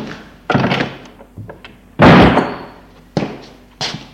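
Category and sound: household object, office door being closed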